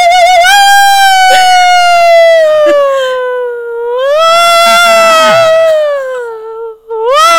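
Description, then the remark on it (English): A loud siren wails continuously on Tremont Street in Boston at rush hour, its pitch sliding slowly down, then swelling back up with a rumble of city traffic beneath, before briefly cutting out and starting again. “That's the sirens working down Tremont Street at rush hour.”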